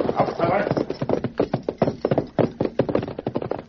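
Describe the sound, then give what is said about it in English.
Horse hooves clip-clop in a steady, brisk rhythm of sharp knocks as the masked man and Tonto ride a short distance before reining up near a camp of rurales, following a brief blurred stretch at the start where a voice or other sound overlaps. “They rode for a short distance, then reined up where a small group of rurales were in camp.”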